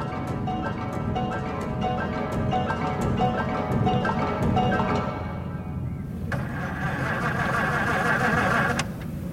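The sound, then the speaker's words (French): A car engine runs loud for several seconds at night, a rough, steady rumble dotted with sharp clicks, its tone shifting and brightening near the end before settling. “Oh, je n'y arrive pas. Damn les moteurs.”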